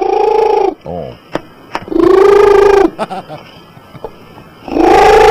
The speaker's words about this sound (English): The world's loudest purring cat. Oh, cool. I love this. Who, if mic closed, will purr between 80 and 92 decibels, the same rate of noise as a hairdryer.